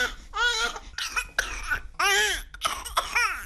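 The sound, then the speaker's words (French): A young girl coughs several times in quick, uneven bursts, fairly loud, some drawn out into whiny, strained voiced sounds between short pauses, during chest physiotherapy as the therapist pushes secretions from her bronchi toward the trachea to help her breathe. “Je vais te faire tousser”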